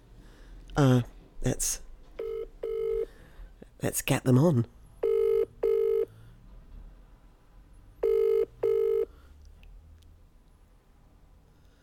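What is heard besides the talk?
telephone dialing and ringing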